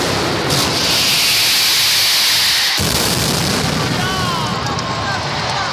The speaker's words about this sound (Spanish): No ha parado de llover en todo el día. Hasta la Mascleta ha desafiado al agua.